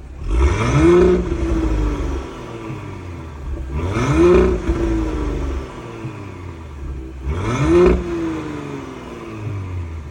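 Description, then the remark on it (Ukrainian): A car engine revs hard three times through a loud exhaust with its exhaust valves opened, each blip rising in pitch and falling back to a deep rumbling idle between, with no talking. “Зараз відкриваємо заслоночки і слухаємо на відкритих.”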